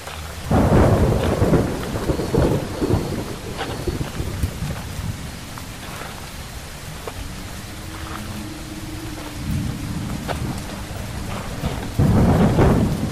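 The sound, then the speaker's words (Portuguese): Heavy rain pours steadily while deep rolls of thunder rumble in, loudest at the start and again near the end, with no voices present. “Vieram as tormentas, mas ele não desistiu.”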